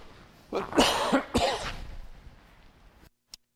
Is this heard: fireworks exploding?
no